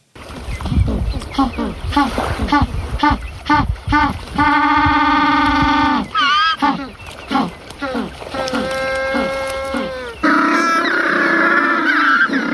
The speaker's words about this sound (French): Ce sont eux que vous entendez, ces oiseaux noirs et blancs, les seuls manchots africains. Ils ont un cri qui fait penser à celui de l'âne, vous l'entendiez. Et ils vivent uniquement sur les côtes de Namibie et d'Afrique du Sud.